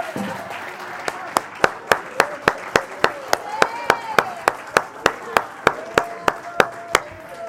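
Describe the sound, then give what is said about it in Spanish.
An audience claps together for the Lord in a steady, even beat, roughly four sharp claps per second, with a murmur of voices and some tonal vocal sounds underneath. “Denle un aplauso al Señor ahora.”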